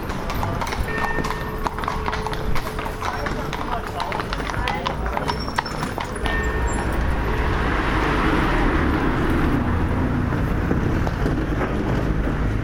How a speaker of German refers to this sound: So hört sich das an, während der Stadtrundfahrt hier durch Prag-Troja, wenn die Pferde herankommen und auf ein Stauende auffahren. Es ist viel Verkehr.